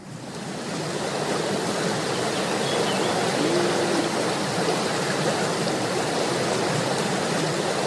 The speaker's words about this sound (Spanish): Acá tenemos, diga, agua. Yo ya siento el verde. Sí, sí, sí. Acá hay frescura, hay verde, hay agua fuerte. Mucha cantidad de agua. Mucha cantidad.